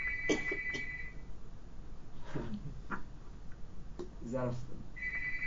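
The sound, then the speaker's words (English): A phone rings faintly in the background, picked up by a call participant's open microphone in Philadelphia, one electronic tone at the start and another at the end, with people talking over the gap between rings. “We are now hearing a phone ringing in some distant land.”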